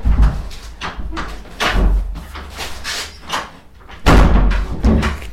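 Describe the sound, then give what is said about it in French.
A stiff door of a psychoanalyst's office is pushed shut with effort: a series of thuds and rattling bumps, ending in a heavy closing knock, with scuffing in between. “il n'y a que le psychanalyste qui peut fermer la porte de son cabinet”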